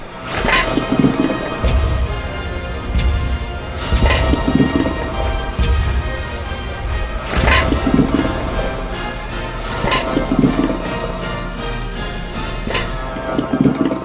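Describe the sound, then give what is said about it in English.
Irregular slapping thumps of fish flopping as they swim through a pneumatic fish transport tube called the salmon cannon, recurring every second or two over a steady low rushing rumble of air and a little water pushed through the tube. “I mean, that's why they're making that flopping sound.”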